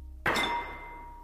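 A single hard thunk of a glass slammed down onto a table, with a brief bright clink that rings and fades over about a second. No voices.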